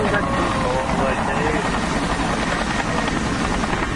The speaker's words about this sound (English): No, helicopter coming.